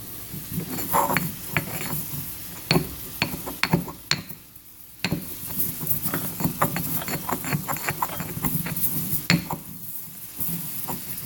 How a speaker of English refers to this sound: I don't know if you can actually hear that, but I'm going to put the phone closer to the mortar and pestle.